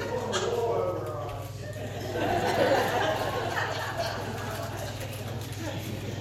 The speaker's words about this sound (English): That is one of our sheep. We have five of them, and for some reason my wife named that one King David. So, that's King David!